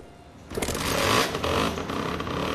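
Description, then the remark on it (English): A small motor on a knife sharpener's grinding wheel in Seville kicks on after a brief quiet moment, then settles into a steady, loud, buzzing whir as the wheel rotates at speed, holding without pause. “There goes the engine. Wheel rotates at speed.”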